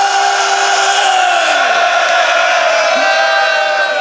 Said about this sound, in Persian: فریاد بزن حسین.